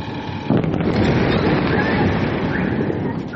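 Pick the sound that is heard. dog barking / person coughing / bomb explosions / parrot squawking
bomb explosions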